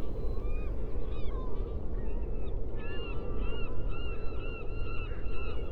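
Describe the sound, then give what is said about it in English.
Seagulls squeal again and again in shrill, overlapping calls over a constant low rush of water and wind at tidal pools. “Punctuated only by squealing of seagulls and occasional splashes of water, the soundscape is monotonous.”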